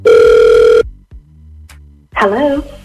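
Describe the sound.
A single loud burst of an outgoing phone ring from the Hot 96.9 radio station, a steady electronic tone heard down the line, drops to a quiet low hum before a voice picks up and starts talking.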